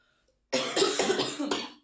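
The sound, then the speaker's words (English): Two people cough together, loud, producing a cluster of about four rough, overlapping bursts in quick succession after a brief silence, with no talking. “We coughed at the same time.”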